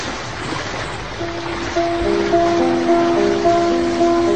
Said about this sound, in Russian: Тяжело повернулись колеса, плицы вспенили воду, и берег отплыл, шумя кустарником.